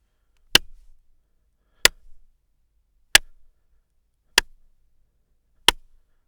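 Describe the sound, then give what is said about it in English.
Five sharp hand claps in a voice recording booth ring out one at a time at an even, unhurried pace, each a crisp smack with a brief decay into quiet between them. “Here are 5 short claps.”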